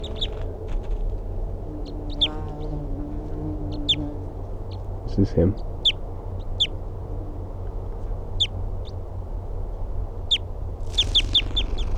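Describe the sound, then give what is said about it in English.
A wild bird, calling from a very small tree about 3 feet above the ground after playback of its calls, repeats short, sharp high-pitched calls at irregular intervals over steady low background noise, ending in a quick burst of several calls; a man speaks briefly partway through. “He's calling now from a very small tree, about 3 feet above the ground.”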